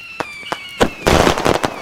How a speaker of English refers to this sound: If you would all look over the lake, Senjin. Begin! Whoa! I didn't know you had fireworks here. Ooh. Yeah, they're beautiful.